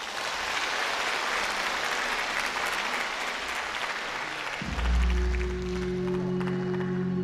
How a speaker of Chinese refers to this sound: 下面让我们掌声欢迎。